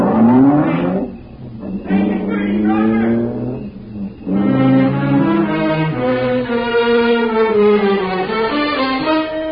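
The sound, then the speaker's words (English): A car engine revs and accelerates, its tone climbing and shifting through gears as the vehicle pulls away, loud throughout with no one speaking. “When we got away from there, I noticed my throat was dry, my hands were beginning to shake.”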